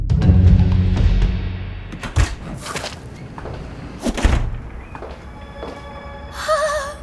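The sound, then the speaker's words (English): The unlocked back door of a soda shop being opened: a rattle of handling, then two dull thuds a couple of seconds apart, followed by a short high, wavering squeak near the end. No one speaks. “Does anyone else find it a little weird that the back door was unlocked?”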